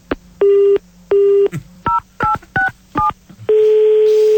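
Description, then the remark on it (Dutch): A phone line redials: two long steady beeps, then a quick run of short two-tone dialing pips, ending in a sustained dial tone, loud and with no one speaking. “Er ging even iets mis met de verbinding, maar ik heb opnieuw voor u...”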